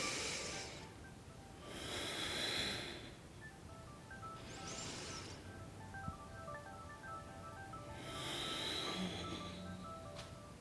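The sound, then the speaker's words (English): Slow, deep breathing during yoga movement in side angle pose: about four long, airy inhales and exhales spaced a few seconds apart, moderately loud over faint sustained background tones, with no talking. “Breathing and moving.”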